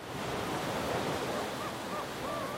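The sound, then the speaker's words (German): Steady ocean surf washes continuously, a broad hissing roar of waves with no pause. Faint gull-like cries drift in the background. “Staub, das sind die winzigen Salzkristalle, die die großen Meere mit der Gischt ihrer Wellen in die Luft abgeben.”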